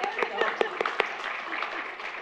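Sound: audience clapping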